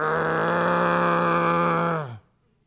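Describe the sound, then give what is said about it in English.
A person imitates a growling dog with one steady, rough, low voiced snarl held for about two seconds, fairly loud, then cutting off abruptly with a slight downward slide. “that's my best dog impression, okay?”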